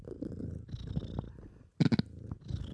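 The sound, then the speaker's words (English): A cat purrs, a low continuous rumble rising and falling with each breath, with a brief louder, rougher burst partway through. “We had like serious purr.”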